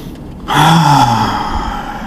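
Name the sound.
deep yogic breathing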